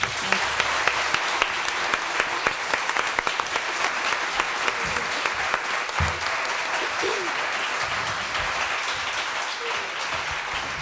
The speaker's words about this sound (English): Give them a big hand.